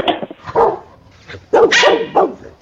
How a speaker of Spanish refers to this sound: Escuchamos un perro, ¿verdad?